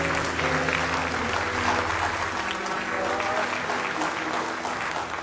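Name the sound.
audience clapping in praise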